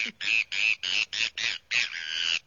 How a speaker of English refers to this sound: It's the Bonaparte's gull. I'm sure you're going to love the sound of this bird. It sounds like a broken horn to me.